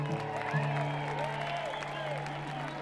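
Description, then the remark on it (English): A crowd claps steadily for the sound crew on a stage, a continuous wash of applause with faint cheers and whistles over a low electrical hum, sustained throughout. “Can we have a big round of applause for Richard Battaglia running the sound today?”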